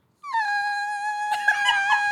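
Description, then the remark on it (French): A voice imitates a second mosquito arriving with a steady, high, nasal whine held for about two seconds, fairly loud, with some breathy rustling noise joining partway through. “Ah, attention, il y en a un autre qui arrive! Voilà, le deuxième.”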